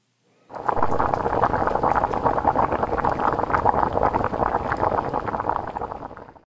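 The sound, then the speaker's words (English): A pot of rice at a steady rolling boil, with dense, continuous bubbling and soft gurgling, holding constant for several seconds before tapering off. “That was the sound of rice boiling.”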